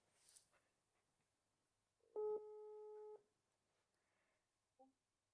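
A single one-second burst of a steady telephone ringing tone as an outgoing call is placed, loud, with faint background noise before it and a short soft sound shortly after.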